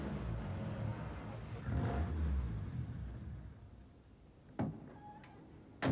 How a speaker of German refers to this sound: Aber da, die Einfahrt zur Garage steht offen. Und da fährt gerade ein Auto rein.